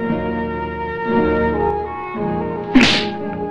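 A woman slaps a man across the face once near the end, a crisp, loud smack cutting through steady orchestral music that plays underneath the whole time.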